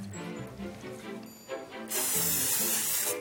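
A can of cooking spray hisses onto a pan before crepes are made, in one steady, loud burst lasting over a second, with faint background music playing throughout before the spray begins.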